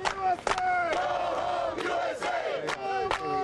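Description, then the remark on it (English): A crowd of actors in a mock Iraqi village at a troop training site chants and shouts angry slogans as two Humvees approach, many raised voices overlapping in loud, rhythmic bursts with sharp yells cutting through the steady roar. “On this day, two Humvees with turret-mounted machine guns chug cautiously up a red dirt road into a mock Iraqi village where a pumped-up crowd of actors is chanting angry slogans.”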